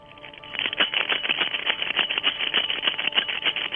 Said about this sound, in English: Is it one of those little monkeys that hits the cymbals together?